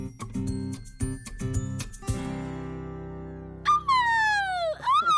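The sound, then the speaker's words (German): A golden eagle's call: a loud, strained, descending cry that slides downward, with a second cry beginning at the end, following a rhythmic musical jingle and a lingering sustained chord. “Ein Steinadler.”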